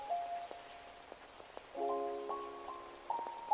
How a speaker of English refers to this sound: was raining that day as well.